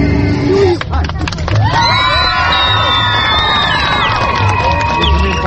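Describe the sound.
A large, dense crowd of hundreds of parishioners at a festive event in Chișinău, Moldova, roars in a continuous din, with high children's shouts and whoops rising above the murmur of many voices, loud throughout.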